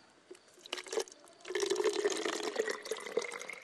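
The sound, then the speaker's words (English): Water splashes and gurgles as it's poured into a bottle on the Bright Angel Trail below the rim, starting with a few brief trickles before settling into a steady stream that rises in pitch as it fills. “So if that's all the water you got, you can probably use some more. You want some? I got some.”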